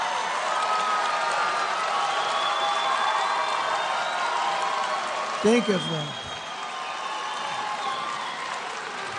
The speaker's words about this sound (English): Do you see them screams? Do you hear those screams?